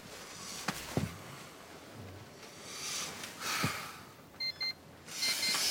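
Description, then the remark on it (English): An alarm clock in a call room gives two quick, high electronic beeps amid soft rustling of bedding and heavy sniffing breaths as a sweating man wakes under a duvet. “He wakes drowsily, a sheen of sweat covering his face, and reads the alarm clock with dismay.”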